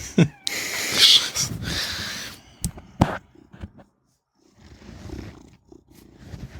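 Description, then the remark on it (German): A domestic cat purrs, a breathy, rumbling purr in uneven stretches broken by short pauses, with a quieter, softer run of purring near the end. “Ich weiß nicht, ob man das Schnurren noch gehört hat.”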